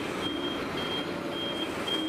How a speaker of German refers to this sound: Das ist übrigens ein Müllwagen, was man am rückwärtsfahrenden Piepen unter Umständen erkennen könnte. Wenn man einen Müllwagen am rückwärtsfahrpiepen erkennen kann.